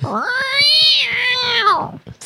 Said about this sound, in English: We have cats fighting in the studio.